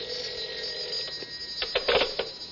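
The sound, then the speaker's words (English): A telephone rings in an apartment with a sustained bright electronic trill, bursts growing louder toward the end, heard alone without any voices. “I hadn't been in the apartment 10 minutes, 9 to be exact, when the phone rang.”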